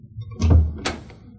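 A door opens: a low thud followed by a short bright clack of the latch, then the sound fades out. No one speaks.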